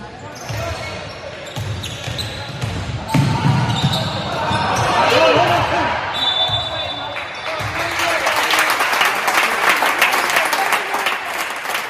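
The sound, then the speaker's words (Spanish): A basketball crowd murmurs over thudding ball bounces and squeaking play, then breaks into loud, sustained applause and cheering that fills the last several seconds. “Bueno, lo importante serán los aplausos del final para que veáis esa jugada que está en redes sociales”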